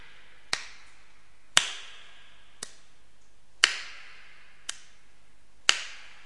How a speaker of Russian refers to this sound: И она начала ритмично хлопать.